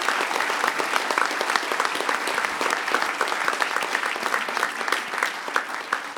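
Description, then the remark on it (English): Audience applause for a Carnegie Mellon alumni crew fills the whole stretch, a dense, steady crackle of many hands clapping at even loudness from start to finish, with no voices breaking through. “So, I'd like to get a round of applause for them.”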